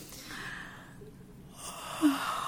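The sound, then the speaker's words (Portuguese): A long, drawn-out breath in, airy, demonstrating how one inhales to yawn, like the start of a yawn, rising into a short, slightly louder catch near the end. No talking. “Então, como que você inspira para bocejar? Uma inspiração longa.”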